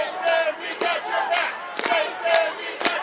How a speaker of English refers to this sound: They were led willingly into a waiting van as the rest of the crowd cheered them on.